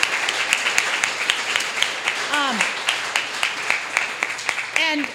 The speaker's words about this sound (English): Thank you, ladies and gentlemen. Let's give a round of applause to all of our writers and our readers for tonight.